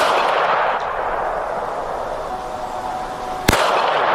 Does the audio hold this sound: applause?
no